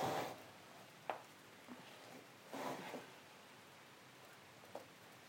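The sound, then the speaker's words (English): Rain falls steadily as a soft, even hiss, broken by a few brief louder patters and splashes. It sounds fairly quiet, with no voices. “Here it comes. Here comes the rain.”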